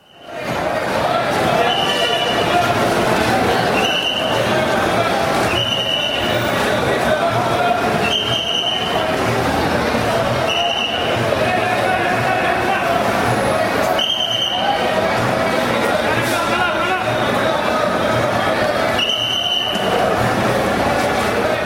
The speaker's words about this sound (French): Basiquement, ce que j'entends des coups de sifflet, j'entends des hommes qui semblent haranguer une foule. On va positionner justement ce paysage sonore. On est dans une gare routière, Saktamthampuram, qui est dans la ville de Kerala,